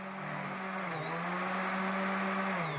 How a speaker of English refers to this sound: Power tools echo through the half-finished space, which Executive Director Elizabeth Stack says is almost 8 times bigger than the museum's old location on Broadway across from SUNY Central.